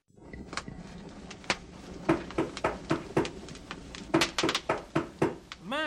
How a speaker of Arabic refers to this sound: لكن فجأة سمع ديكو أحدا يطرق الباب. كان يطرق الباب بقوة.